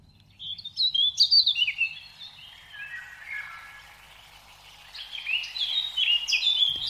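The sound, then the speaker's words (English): Rapid, high-pitched songbird chirps and trills tumble in bright bursts, dipping briefly before rising again into busy twittering; clear, with no voices. “Recordings like this one are being played by criminal gangs through speakers to lure small birds into nets or onto branches covered in glue on the island of Cyprus.”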